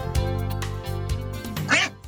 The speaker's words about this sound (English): Okay, Murfreesboro, the quack is back.